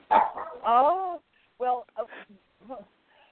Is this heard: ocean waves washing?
no